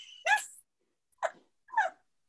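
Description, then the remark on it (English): Three brief, high-pitched cat calls, like small meows or chirps, separated by short silences; the first is the longest and strongest, with no talking around them. “Okay, listeners, I literally can't stop laughing because we literally recorded for 30 minutes before the cat came in, and he's like, yeah, the cat might make a little noise.”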